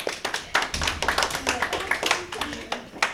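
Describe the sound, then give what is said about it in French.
An audience applauds the contestants before a round of the game Traduis-moi, a steady patter of many hands clapping at moderate loudness for about three seconds, with some voices mixed in beneath the claps. “On peut les applaudir.”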